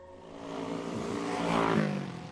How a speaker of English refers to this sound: gets in a car and drives.